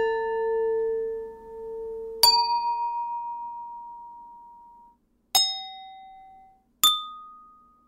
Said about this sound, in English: If you hit another glass, it might go pong. You know, like you just got to hit the sound, whatever sound that glass makes, you got to play it back at it.